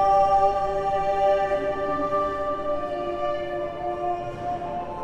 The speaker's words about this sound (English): It's an amazing piece of music that has 40 different harmonies from around 1556.